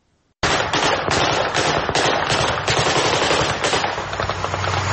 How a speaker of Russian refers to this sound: Три тысячи мирных жителей села Паник Ширакской области Армении пришли в ужас от выстрелов и взрывов. Они решили, что в селе начались реальные боевые действия.